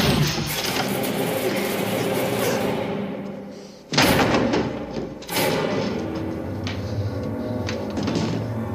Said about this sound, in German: Doch Jack hat eine Axt dabei, mit der er sich entschlossen an der Tür zu schaffen macht.